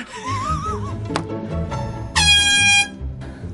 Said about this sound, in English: Air horns always make everything more fun.